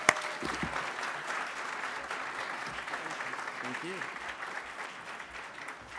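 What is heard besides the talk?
audience applause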